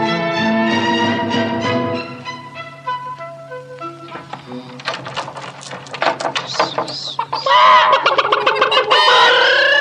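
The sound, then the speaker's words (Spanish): A busy flock of chickens clucks and squawks in a farmyard coop, starting with drawn-out calls that break into rapid, overlapping chatter growing louder toward the end. “¡Miren nada más cuánta gallina guapa!”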